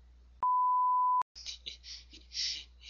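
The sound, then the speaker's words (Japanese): A single steady censor beep, a pure tone lasting just under a second, cuts in sharply after a brief quiet moment, then gives way to a stretch of soft, hissy noise; the beep covers an edited-out convenience store branch name spoken on a phone call. “今、ここでついね、自分ちのコンビニの名前を、何々店ですまで言っちゃったから、ここは編集でカットさせていただきました。”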